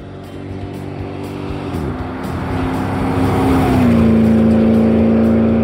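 An old cherry red 1989 Pontiac Bonneville engine revs with a steady droning hum that climbs in pitch in two distinct steps, growing gradually louder throughout, with no voices.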